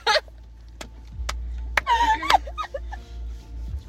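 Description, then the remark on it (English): A deep, steady engine rumble from a loud car passing by outside drones underneath, with brief clicks and a few high, chirpy giggles and squeaks on top. “It's literally an inside joke for my mom to be like, whenever we hear a loud car, small.”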